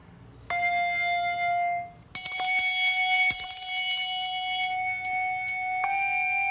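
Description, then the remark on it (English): Clear, ringing bells, played by players wearing gloves, sound a short melody on notes including F, F sharp and G, a few sustained tones struck one after another and overlapping as they decay, fairly loud with no talking. “So the gloves protect the bells from our oils.”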